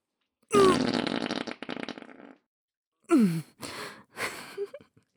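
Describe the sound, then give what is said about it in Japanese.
A long, loud, sputtering fart, trailing off after about two seconds, then a pause and three shorter, squeakier farts in quick succession, presented as the farts of a nun character called Sister. No one speaks. “くっさ、すっごい匂いしてるでしょ、シスター様のおなら。”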